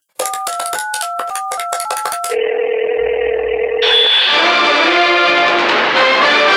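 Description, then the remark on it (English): A quick run of around eight loud touch-tone keypad beeps dialing the LBC radio station, followed by a steady humming line tone before bright music abruptly takes over. “At 9:30 a.m., I sabotage competitors to culture my arts by ringing up popular radio stations and being a nuisance.”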